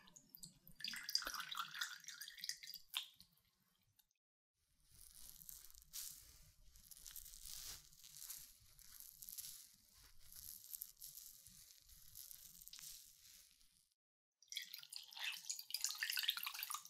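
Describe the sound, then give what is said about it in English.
Warm water dripping and trickling during ear cleaning, with crackly, wet textures, broken by a brief pause partway through and resuming in bursts. No one speaks. “Okay, warm water first to clean.”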